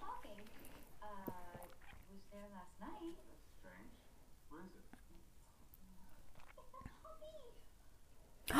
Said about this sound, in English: Oh! Okay, that's so fucking cute. Why is there a puppy?